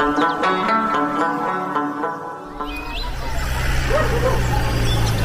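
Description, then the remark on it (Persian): A dog barks in a quick run of sharp yaps, before the barking gives way to a steady rumbling background noise with a few faint high chirps. “باید از شرید سگ برای خلاص کنی.”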